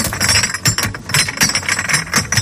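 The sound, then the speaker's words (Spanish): Glass bottles and jars clatter and clink as they tumble into a green glass-recycling container in Spain, a busy run of sharp, bright crashes and rattles that keeps going with no voices. “El año pasado, en 2021, los españoles depositaron en los contenedores verdes, te suena este sonidito, ¿verdad?”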